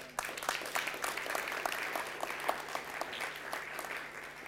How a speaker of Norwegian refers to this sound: En applaus for Jesus.